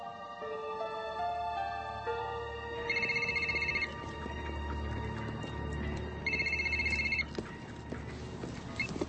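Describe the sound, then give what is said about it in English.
A cell phone rings twice with a rapid, trilling electronic chirp, each ring lasting about a second with a pause between, over a low background hum. “Hey, I thought you weren't answering your cell phone.”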